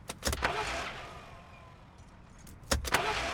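Someone getting into a car: a close burst of clunks and rustling, a quiet stretch, then another cluster of door thumps and shuffling near the end.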